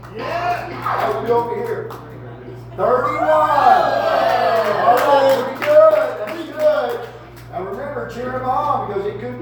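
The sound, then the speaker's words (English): A crowd cheers and yells with many overlapping voices, loud and sustained, swelling in the middle and easing off into scattered shouts toward the end, over a steady low hum. “You're cheering because you're glad it's not you up here.”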